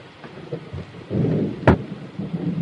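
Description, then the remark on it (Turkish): Heavy rain pours steadily, filling the scene with a dense hiss, while low rumbles of thunder roll underneath and one sharp crack breaks through near the middle. No voices are heard. “Amma yağmur yağıyor ha.”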